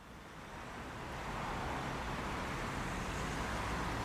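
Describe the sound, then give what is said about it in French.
Steady road traffic rumble outdoors at a bus stop in an icy wind, a broad wash of noise that swells over the first second and then holds constant, with no distinct horns or voices standing out. “À l'arrêt de bus, mes mains se crispent complètement sur mon smartphone quand le vent glacial s'engouffre dans mes manches.”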